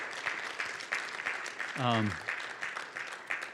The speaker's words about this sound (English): I think he needs a round of applause for that.